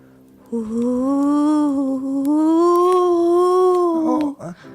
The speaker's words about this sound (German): Ach was, Sicher zieht nur der Wind durch meinen Kamin und verursacht dieses Geräusch.